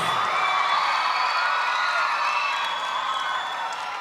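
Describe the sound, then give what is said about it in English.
A large crowd at a rock concert cheers and whoops steadily, a dense roar of voices and applause that holds loud throughout with only a slight dip toward the end. “You guys are pretty much rock and roll crowd here tonight.”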